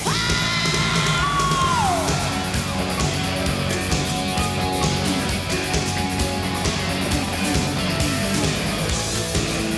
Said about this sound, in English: If you can't yell, I want you to scream.